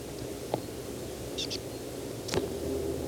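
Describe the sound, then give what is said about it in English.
A bird foraging in low pine branches about 3 meters away gives soft calls: a few brief, high, thin notes, including a quick pair, spaced irregularly over a steady low background hiss, with no voices. “The same bird foraging, making these soft calls.”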